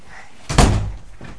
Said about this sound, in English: Can you shut the door?